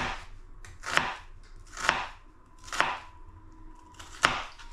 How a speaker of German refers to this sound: Dann schneidet man hier oben die Spitze weg. Schneidet dann quasi längs in die Zwiebel ein.